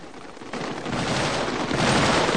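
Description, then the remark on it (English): A dense burst of gunfire in a firefight among mounds of shattered brickwork, rapid shots blurring into a continuous crackling roar that swells louder after the first half-second and keeps going, with no voices. “He hurtles on, bounding athletically over the mounds of shattered brickwork, stopping sporadically to fire.”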